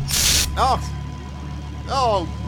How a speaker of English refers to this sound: I'm just going to spray that. Sorry. I'm spraying the microphone. Don't spray the microphone. The microphone doesn't have bugs.